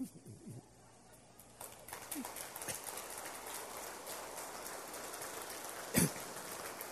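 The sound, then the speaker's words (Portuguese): Standing men break into applause for the women around them after a quiet opening second, building into a dense, steady patter of many hands clapping, with one sharp, louder burst near the end. “Você vai olhar para as mulheres à sua volta agora e você vai aplaudir.”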